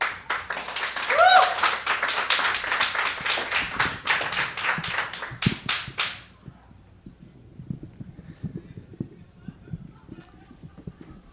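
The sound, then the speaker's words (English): Audience applause at an open mic reading, welcoming the first reader, fills the first six seconds, dense clapping with a brief whoop near the start, then cuts off sharply, leaving quiet murmuring and soft voices. “And I actually prefer that there's no applause on the recording.”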